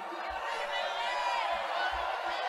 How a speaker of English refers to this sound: You can hear the crowd shouting McCain's name.